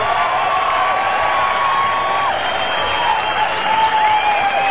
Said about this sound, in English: Applause for that great band.